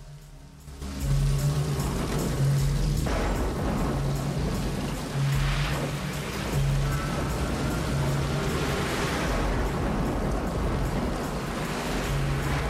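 A convoy of cars pulls out of Jericho, headed for Slim's Roadhouse, engines rumbling in a loud, steady drone that swells in after a second and holds, with a low pulsing hum beneath broad road noise.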